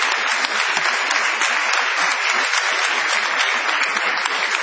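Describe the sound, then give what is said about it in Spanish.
Steady, dense applause from an audience in a small club, many hands clapping continuously at an even, fairly loud level with no pauses or voices standing out. “Extendamos el aplauso para adjudicárselo a”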